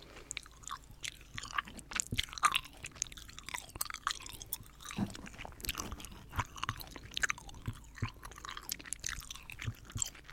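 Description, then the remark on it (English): Wet chewing of tiny lemon- and banana-flavored gum balls, with a steady run of crunchy bites and sticky smacks that continues for about ten seconds without any talking. “And the chewing sound is fine, but the sound at the beginning is the best.”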